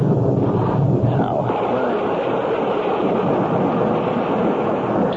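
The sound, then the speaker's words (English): Heavy rain pours down out in the middle of nowhere, so heavy it makes it impossible to see, in a steady, loud, unbroken roar, a dense wash of hiss with a low rumbling undertone throughout. “Damn rain makes it impossible to see.”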